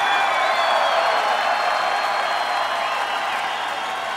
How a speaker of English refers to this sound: … and … have matching haircuts tonight. I just thought we should give that some applause.